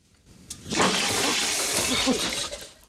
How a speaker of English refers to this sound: He checks his face in a mirror and examines the wash basin taps. He moves the handle left and right, but no water. He lifts the tap handle and water spurts out.